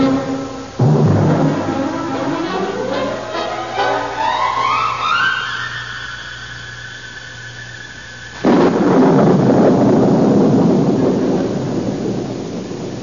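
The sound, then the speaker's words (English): A loud thunderstorm with steady pouring rain and heavy rumbling thunder, a rising whistling tone sweeping up through the middle before a fresh burst of downpour. No one speaks. “come in out of the rain.”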